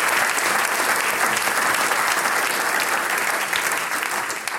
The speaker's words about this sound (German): Schenk mal den Ruhmbuben nochmal einen kräftigen Applaus. Den haben sie sich verdient.